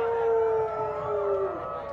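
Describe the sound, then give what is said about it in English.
A crowd of audience members howls together like wolves during a song, a sustained, wavering chorus of voices that glides slowly downward before fading after a couple of seconds. “So all you animals out there, you're gonna have to help us out throughout the song, and it's specifically a verse about wolves. This guy's ready to howl.”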